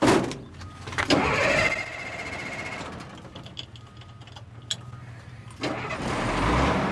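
truck engine starting

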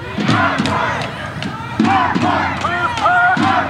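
rally crowd chanting

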